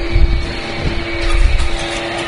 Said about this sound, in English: Oh, we got the leaf blower now. It's not the grass cutter.